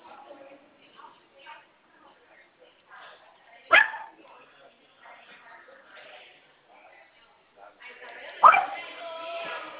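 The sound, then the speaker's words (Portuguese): A dog barks twice, sharp, with a few seconds between barks, while people talk quietly in the background. “Que a minha esposa achou um cachorro de uma mulher, ela tá devolvendo aqui.”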